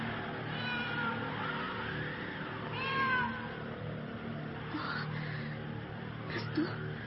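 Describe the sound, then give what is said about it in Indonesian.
A cat meows on the roof of a house in drawn-out, wavering cries with an eerie, wailing tone. The calls are fairly faint, over a steady low background hum with no talking. “Mendengar suara seekor kucing di atas atap rumah.”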